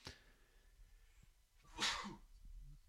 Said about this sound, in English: Little sneeze off mic there. Hope you didn't pick it up.